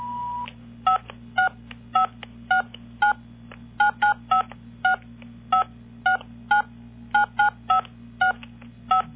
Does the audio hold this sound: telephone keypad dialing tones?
yes